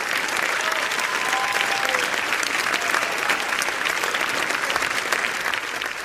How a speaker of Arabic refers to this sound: بهذا التصفيق الحار انتهى العرض الأول لفيلم نسور الجمهورية أمس، وبقي الجمهور يصفق لأكثر من 10 دقائق في الصالة معبرا عن إعجابه بحبكة الفيلم وقصته